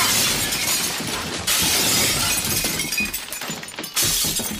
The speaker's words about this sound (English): He dropped half a foot and crashed into the middle of a mouse dinner party, breaking three glasses.